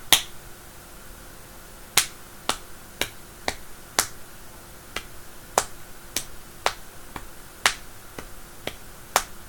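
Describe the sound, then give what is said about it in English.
Sharp, crisp slaps of thighs against thighs repeat about a dozen and a half times in a loose, fairly steady rhythm, each a quick bright smack with no voices. “Hear the sound of those thighs slapping on my thighs.”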